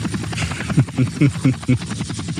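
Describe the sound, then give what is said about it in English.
A voice imitates a lawnmower engine, a low, buzzing, sputtering drone that pulses in quick, uneven bursts for a couple of seconds at moderate loudness. “We need a lawnmower sound effect is what we need.”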